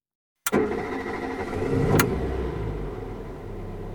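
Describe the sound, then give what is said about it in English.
A car engine cranks and catches with a sharp start, then settles into a steady idle rumble, with a brief clunk partway through. No one speaks. “Right, Mr. Brown. Start the car.”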